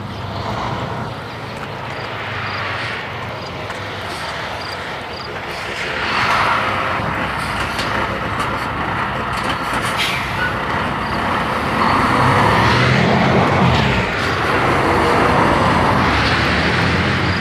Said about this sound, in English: To see which way that truck was going. It's a Lowe's delivery van with a lot of lumber on it. I saw him delivering the lumber earlier and wasn't sure if he was going to turn in my direction or away, so I gave him room.